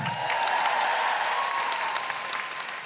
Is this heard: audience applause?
yes